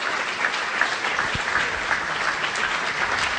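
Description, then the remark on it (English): Steady, dense applause for Frank Gehry from an audience at a Free Library author event in Philadelphia. A continuous crackle of many hands clapping at an even loudness throughout, with no voices heard. “And let's give another round of applause for both Barbara and Frank Gehry.”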